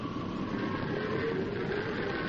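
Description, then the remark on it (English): A steady, unbroken rumbling roar of a herd of longhorn cattle stampeding toward Silver Basin, holding at an even loudness throughout with a dense low thunder and faint higher hum, no voices. “What's that? Sounds like thunder.”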